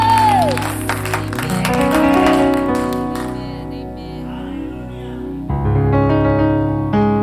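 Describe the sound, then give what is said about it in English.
A church audience claps hands in praise to God after a baptism, a dense burst of applause that thins out after a few seconds while sustained organ or keyboard chords play underneath and continue on their own. “Let's give God a hand clap of praise for what he's doing”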